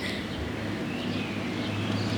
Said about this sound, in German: Jetzt kommt gerade ein Zug da vorbei, vielleicht hört man es. Wir müssen kurz warten.